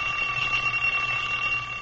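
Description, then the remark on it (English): An old mechanical alarm clock rings in the morning, continuously, with a shrill, buzzing bell tone, steady and fairly loud throughout, with no voices present. “Boy, when that old alarm clock goes off in the morning, I'll bet there's lots of folks who wish they could go right on sleeping for 20 years.”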